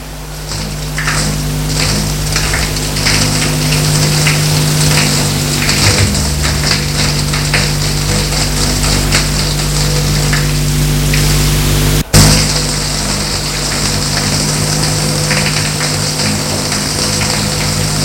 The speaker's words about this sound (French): Et va dans la salle de bain, prendre une douche. Une bonne douche bien chaude.